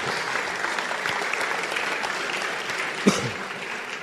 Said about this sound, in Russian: Благодари Бога, аплодисменты.